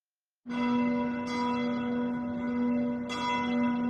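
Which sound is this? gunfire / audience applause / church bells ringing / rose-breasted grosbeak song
church bells ringing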